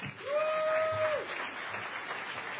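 Steady, dense audience applause at an event presenting projects, for a speaker about to thank his crew from Radio Statler, with a single sustained high whistle rising above the clapping for about a second near the start.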